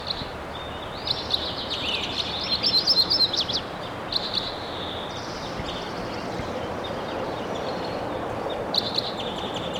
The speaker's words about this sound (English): Loud bird now at 9:41. Be close. Stop. There's a loud bird, I think.